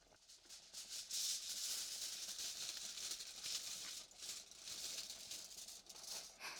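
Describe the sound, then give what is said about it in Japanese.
Crinkly crackling of crumpled aluminum foil being spread out to serve as a drop lid over a pot of simmering sauce, a continuous rustle with uneven bursts of louder crackle over several seconds, no voices. “くしゃくしゃにしたアルミホイルを広げて落とし蓋をしたら、あとはグツグツと煮詰めるだけ。”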